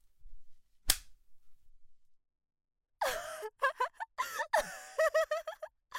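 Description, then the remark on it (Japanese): A whip, held and swung by hand, lashes a person: a single sharp, loud whip crack snaps out early, followed after a pause by a series of breathy gasps and pained vocal cries. “自分で握って振るうムチの感覚、ゾクゾクしちゃう。”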